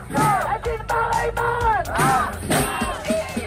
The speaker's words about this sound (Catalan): I aquest era el so d'una manifestació aquesta mateixa nit a Israel de familiars dels hostatges hebreus que encara estan retinguts per Hamas. Asseguraven estar contents, però reclamaven que el retorn d'aquests hostatges es materialitzi aviat.